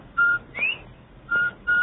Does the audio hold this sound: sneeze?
no